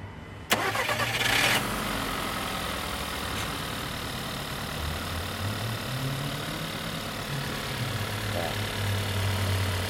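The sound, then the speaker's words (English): An engine mounted in a stand, about 3 feet from a wall, cranks briefly and catches, then settles into a steady, loud idle with a low rumbling drone and slight shifts in pitch, running continuously. “Right, you're going to just start this up in the stand here.”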